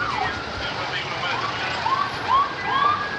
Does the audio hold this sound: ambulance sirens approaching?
yes